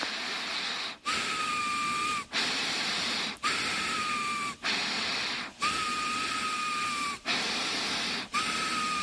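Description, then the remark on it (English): Loud, steady nasal breathing made by Homer during a prayer, a rhythmic series of hissing inhales and exhales with a thin whistling tone through several of them, each breath broken by a brief pause. No talking. “Breathe through your damn mouth!”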